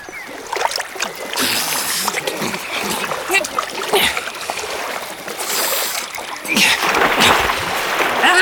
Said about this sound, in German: Und während ich so suchte, sprang auf einmal ein Biber aus dem Wasser. Also nicht irgendein Biber, sondern ein alter Bekannter von mir.